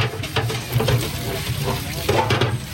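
Huge cooking pots being washed up at a food kitchen in Gaza at the end of the shift: steady running and splashing water with scrubbing and occasional metallic knocks, fairly loud throughout.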